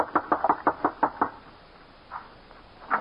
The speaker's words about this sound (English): So, just as I'd always done, I left Johnny in charge and rode down to the old-timer's shack and knocked on his front door.